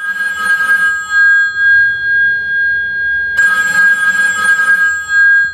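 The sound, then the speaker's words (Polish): A public payphone bell in a phone booth rings by itself in two long bursts separated by a brief pause, a bright, steady metallic trill at a sustained high pitch, fairly loud and heard alone without any talking. “Jeszcze chciałbym powiedzieć o takiej ciekawej funkcji tych urządzeń, bowiem te aparaty mają też taką funkcję, można powiedzieć, zaczepną, ponieważ od czasu do czasu mogą zadzwonić.”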